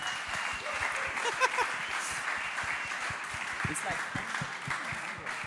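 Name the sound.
audience applauding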